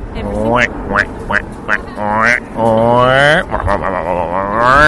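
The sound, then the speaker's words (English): A person does a loud duck impression: a quick run of short, nasal quacks followed by longer, drawn-out quacking calls, voiced with no real words. “What's wrong with my duck impression?”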